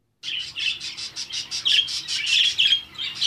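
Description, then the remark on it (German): Budgerigars chirp and chatter busily, a dense stream of quick high tweets and occasional harsher squawks, fairly loud, with no voices. “Es zwitschert, schnattert und pfeift.”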